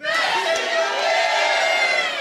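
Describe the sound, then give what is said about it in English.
A crowd of voices at a live show yells "best in the biz" together in unison, a loud, sustained chorus of shouting that holds steady for about two seconds before cutting off. “Okay, but we're going to need you to yell best in the biz in just a second.”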